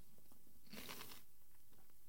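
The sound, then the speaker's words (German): A crisp crunch as someone bites into a snack, a short burst of brittle crackling with a few softer chewing clicks before and after, quiet and without any talking. “Kannst du mich hören? Oder knusperst du zu laut?”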